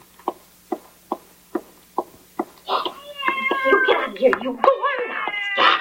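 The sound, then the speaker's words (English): A cat meows and caterwauls loudly inside a building, drawn-out wavering yowls that rise and overlap, following a short run of six evenly spaced taps. “help me get this cat out of the building.”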